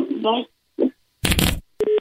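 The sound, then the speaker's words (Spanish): A brief voice gives way to a sharp clattering clunk as a phone is hung up, followed by a short, steady electronic dial tone that cuts off abruptly. “¿Para qué le colgaste el teléfono?”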